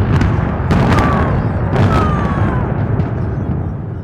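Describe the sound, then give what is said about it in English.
A demolition blast of towers, watched by a crowd after a countdown on a foggy morning just after 9:30 a.m.: several sharp, cracking bursts over a heavy, sustained low roar that rumbles on for seconds, with faint falling tones briefly drifting above the din. “There was a short, dull blast, followed by a shockwave that hit deep in the chest.”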